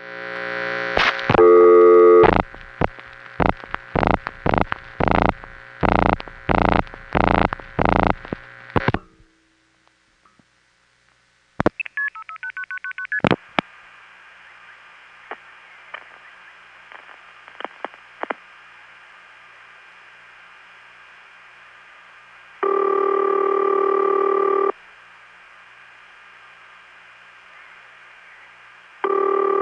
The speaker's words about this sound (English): Let's start with just a basic call to an NX1 from my Long Island home in 1976. This goes from the Lynbrook Crossbar 5 to Hempstead Crossbar Tandem number 3, 5166, to Pittsburgh 4A number 2, 4121, to Katanning NX1.